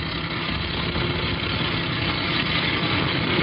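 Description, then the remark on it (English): A truck engine idles steadily, a low continuous rumble with a faint vibrating hum that holds at an even level throughout, with no voices. “When the truck gets close enough, I'll put the searchlight in the driver's face like before. He'll stop fast enough.”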